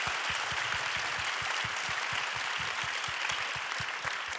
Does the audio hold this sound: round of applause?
yes